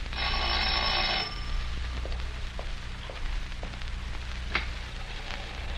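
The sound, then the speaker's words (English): Heavy rain pours steadily in a constant hiss with occasional sharper drips, after a loud bell rings for about a second at the start, in an early-evening scene of the Dr. Christian story. No one speaks. “Is it still raining hard? Ooh, as hard as ever.”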